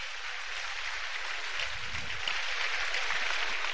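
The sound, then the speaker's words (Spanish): Steady, dense applause from a crowd of women, a continuous crackle of many hands clapping together, with no voices standing out. “Aplauden las mujeres.”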